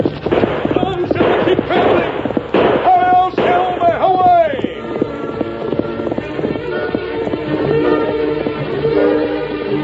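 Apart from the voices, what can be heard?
horse hooves galloping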